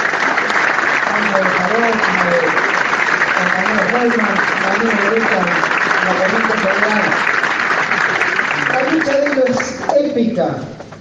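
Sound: audience applause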